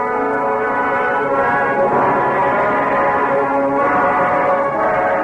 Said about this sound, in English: Pretty soon we ought to be hearing the Lime Rock horn.